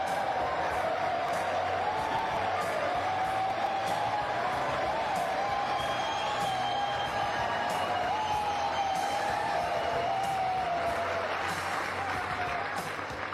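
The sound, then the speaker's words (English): Sustained audience applause with cheering and scattered whoops, a dense steady roar of clapping and crowd noise holding loud for about thirteen seconds with no clear speech. “Thank you for that very generous applause.”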